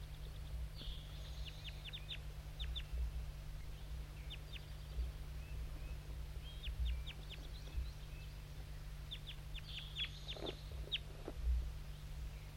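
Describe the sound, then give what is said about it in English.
A crossbill, mostly the one called bird 5-3, gives bursts of sharp, high chip calls in quick clusters of several notes, repeated throughout over a steady low hum. “This is mostly bird 5-3 calling.”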